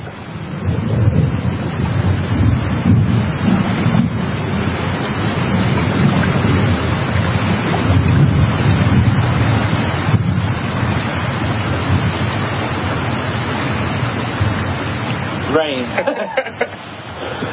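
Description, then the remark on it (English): A dense, steady roar of heavy rain pouring down outdoors on a farm, loud and continuous throughout, with wind-like rumble underneath and a brief voice near the end. “Started raining on us kind of hard.”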